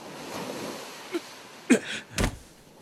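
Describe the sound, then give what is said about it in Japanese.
Steady ocean surf washes in the background at a swimming beach by a beach hut, with a couple of louder wave bursts breaking near the end. No one speaks. “その頃、ここは海水浴場の海の家。”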